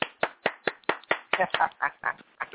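A single caller claps steadily into a phone as a round of applause, about a dozen sharp claps in quick rhythm, sounding thin and band-limited as if coming through a telephone line.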